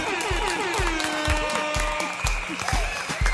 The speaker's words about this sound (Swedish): Jag tycker faktiskt att vi ska ge oss själva en applåd och en tuta också, för att vi har hållit ut det här skitåret, men med att vi har haft kul samtidigt.